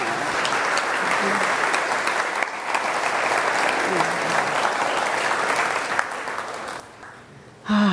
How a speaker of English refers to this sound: I want you to stand up if you don't mind for a moment so we can bow to you and clap again. Thank you so much.